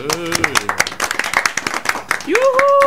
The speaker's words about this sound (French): Applaudissez.